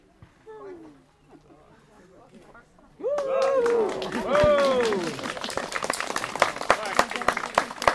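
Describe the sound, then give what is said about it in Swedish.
An audience at the inauguration of the frog ponds in Alby breaks into spontaneous group singing, voices swelling loudly together after a quiet start, with hand clapping rising alongside and continuing in a dense, steady patter. “Här började publiken spontant sjunga.”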